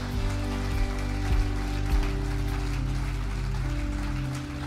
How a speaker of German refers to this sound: Und lasst uns mit den ungefähr 14 Menschen alleine hier im Saal jetzt feiern. Come on, lasst uns Gott einen riesen Applaus geben.